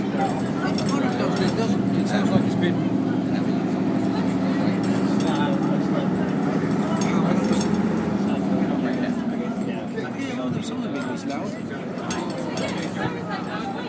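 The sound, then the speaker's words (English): A Routemaster bus engine runs steadily, a continuous low, throaty drone with mechanical rattling and clatter layered on top, holding an even loudness for the whole stretch. “Doesn't sound like an original engine, does it?”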